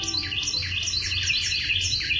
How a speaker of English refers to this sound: When a Carolina wren tips back its head and sings, something remarkable happens. A Carolina wren can sing so loudly that you almost have to shout to be heard over its song.